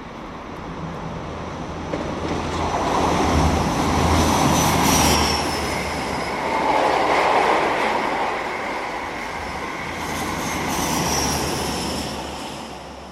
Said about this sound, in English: Your train sounds like when it's between Didcot and Reading. How do you know? That was a high-speed train.